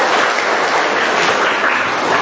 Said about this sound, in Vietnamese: Chúng ta cho một tràng pháo tay để chúng ta chào những chứng nhân tối hôm nay.